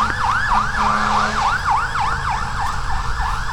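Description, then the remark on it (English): An ambulance siren yelps in quick, steady up-and-down sweeps over a low rumble of traffic, continuing throughout without any talking. “And it was an ambulance.”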